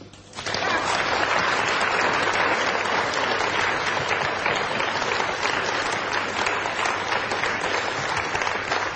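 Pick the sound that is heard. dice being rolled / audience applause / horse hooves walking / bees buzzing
audience applause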